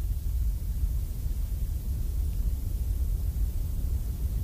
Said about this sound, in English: And finally, the one that the SU1W sound therapy machine just calls white noise.